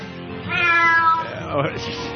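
A cat meows clearly, one drawn-out, rising-then-falling meow followed by a shorter bending cry, heard on its own without talking.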